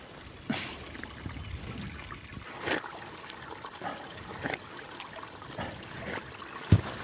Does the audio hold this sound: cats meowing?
no